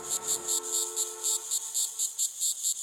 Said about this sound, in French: L'été, il y a des cigales, mais c'est normal, on est à Marseille, en Provence.